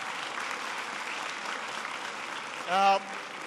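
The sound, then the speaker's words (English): An audience of students at a school applauds steadily, a dense, even wash of clapping that holds throughout, with a brief voice cutting through loudly near the end. “That's worth applauding, that you're enjoying learning so much.”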